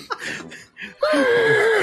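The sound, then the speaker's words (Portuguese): A person imitates a horse: a few breathy, snorting bursts, then a loud, sustained whinny with a wavering pitch that slowly falls. “Aí você escuta um barulho dos cavalos um em cima do outro.”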